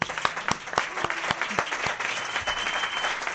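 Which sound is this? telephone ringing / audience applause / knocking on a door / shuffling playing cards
audience applause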